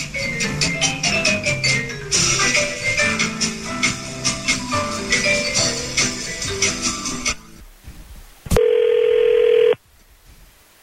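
A bright, rhythmic musical jingle plays for several seconds, then stops, and a single loud, steady ringback tone sounds for about a second on an outgoing phone call from The Wolf radio show.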